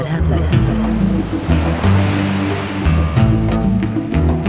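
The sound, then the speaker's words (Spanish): Ocean waves break on the shore in a loud, continuous wash of surf, heard through the camera of a drone set down on the shoreline, with a steady voice-like tonal layer running over the roar throughout. “El placer de estar sentado en el sofá, colocar su dron en la orilla y a través de su cámara ver y escuchar las olas romper es incomparable.”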